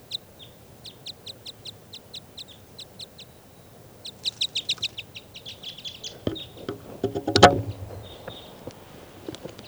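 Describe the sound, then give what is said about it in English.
A bird near a net calls in quick, evenly spaced series of high, bright chirps, with a brief pause between bursts and a short rustling clatter near the end. “Recording now, I hear that bird tooping over here somewhere.”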